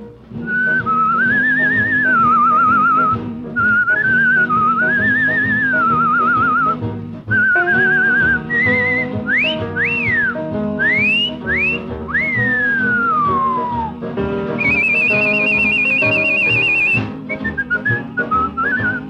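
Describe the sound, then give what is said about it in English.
A bright whistled melody carries over a full orchestral backing, with trills, rising swoops and a long falling glide, then a high sustained passage near the end. “mighty doggy whistling it was, too,”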